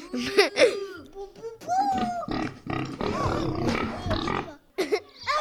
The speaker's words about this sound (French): Non, c'était un cochon. Le bruit d'un cochon.